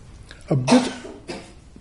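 A single throaty cough bursts out sharply, followed by a softer rasping exhale and a faint second catch of breath.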